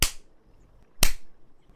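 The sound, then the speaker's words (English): Two sharp, loud smacks of a paddle against skin, about a second apart, each a crisp slapping crack that fades quickly into quiet, with no voices. “When the paddle hits.”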